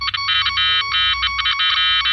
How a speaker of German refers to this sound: So hört es sich an, wenn ein funktionierendes Handy klingelt.